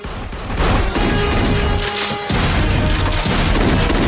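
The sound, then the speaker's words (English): Loud gunshots, fired again and again by someone standing behind a bar and slowed down into slow motion, boom with each blast stretched into a deep, rumbling roar with a dense wash of noise and a brief lull midway. “Standing behind the bar, Little shoots again and again and again. The action is slowed down. The shots are in slow motion.”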